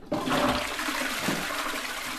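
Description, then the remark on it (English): A toilet flushes with a sudden loud rush of water that keeps swirling and gurgling steadily, with no voices. “Have you ever wondered where the water from your sink or your toilet goes?”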